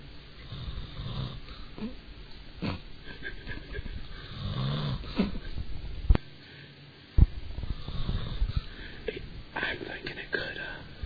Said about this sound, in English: Then snores. We gotta keep it asleep.